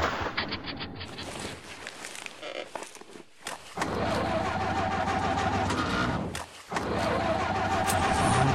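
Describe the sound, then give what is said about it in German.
A car engine churns and cranks unevenly, cutting out abruptly twice before roaring back, with rough, irregular bursts suggesting it's sputtering and struggling to stay running. “Der Motor ist abgeregt. Schluss, aus, wir sind am Ende.”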